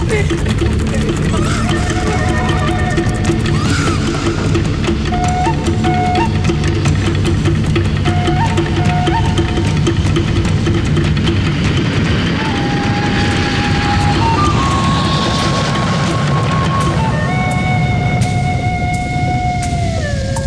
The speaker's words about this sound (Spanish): ¡Prende la moto, hombre! ¡Nos vamos ya!